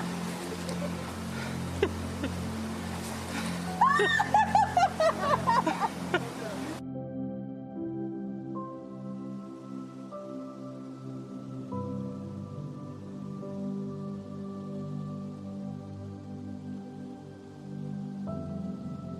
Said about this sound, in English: This is a cave with a waterfall, yeah? And this is my favorite chill spot.